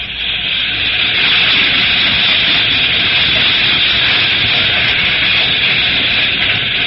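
A slow freight train rolls past, a loud, steady wash of rumbling and hissing noise that holds an even level throughout, with no voices.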